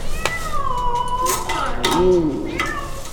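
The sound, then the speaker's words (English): A distressed, accidentally trapped cat meows and yowls repeatedly, its drawn-out, wavering cries rising and falling over a steady background with occasional metallic clanks. “They will also release accidentally trapped skunks, a mink, and one very unhappy cat.”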